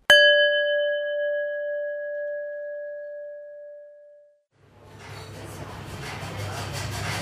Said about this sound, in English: Now press pause when you hear the bell